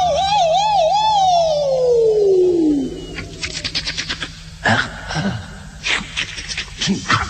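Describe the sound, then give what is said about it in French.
An ambulance siren wails with a wavering pitch, then slides steadily downward and dies away within about three seconds. Scattered clattering and knocking noises follow. “Tranquille, j'entends la sirène.”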